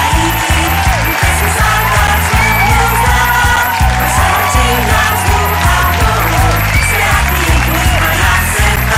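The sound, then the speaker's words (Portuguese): Loud, sustained applause from the audience of a daily show, mixed with cheering and whoops, continuing steadily for the whole stretch over a pounding, rhythmic beat underneath. “Cadê os aplausos?”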